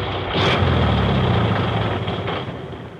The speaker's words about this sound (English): Suddenly, the engine spluttered. The car shuddered and stopped.